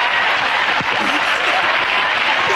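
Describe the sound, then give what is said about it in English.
A crowd cheers and claps in a loud, dense, continuous roar of applause that holds steady throughout, with occasional shouts rising out of the noise. “Listen, the crowd are going mad.”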